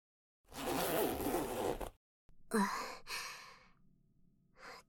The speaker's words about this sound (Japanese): チャックを下ろしたら、勃起したの飛び出してきた。